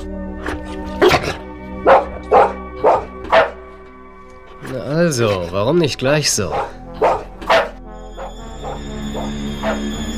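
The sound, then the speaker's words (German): A dog barks several times in a quick, loud series, breaks into a wavering whine, then lets out a few more barks, while a person speaks briefly. “Brav, guter Hund.”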